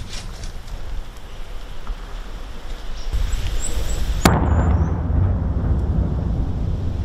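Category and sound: impact, shelling explosions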